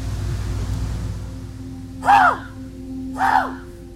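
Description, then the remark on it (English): A person's voice imitates a raven's croaking call twice to call in ravens, two harsh throaty caws about a second apart, over a steady low hum of background noise, outside a house on a crisp morning in Thompson. “I'm going to try and call in a raven or two, if I can.”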